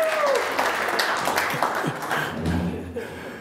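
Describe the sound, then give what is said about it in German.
Steady applause from an audience for the technician, a dense wash of many hands clapping at once for a few seconds, with faint voices and a brief whistle-like tone mixed in. “Ein Beifall für den Techniker.”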